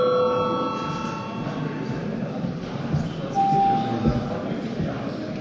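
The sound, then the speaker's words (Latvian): A steady electronic bell tone rings at the start and slowly fades, with a brief second tone partway through, called for a break in a parliamentary session, over a background of murmur and shuffling. “Tādēļ lūdzu zvanu.”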